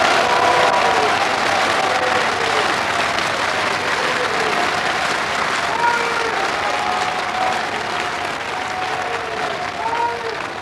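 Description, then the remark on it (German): Sustained applause from a large crowd for Peter Zimmer, Lord Mayor of Saarbrücken, during his August 1955 campaign speech for the Saar Statute, a dense, steady clatter of many hands clapping at full volume throughout, with faint murmuring voices mixed in beneath it. “Applaus für Peter Zimmer, den Saarbrücker Oberbürgermeister, hier in seiner Wahlkampfrede im August 1955 für das Saarstatut.”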